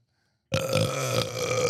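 burp

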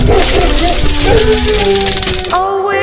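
dog barking and howling

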